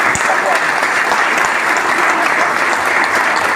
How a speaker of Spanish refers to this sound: se merecen un aplauso pero enorme de todo el país por lo que han logrado acá.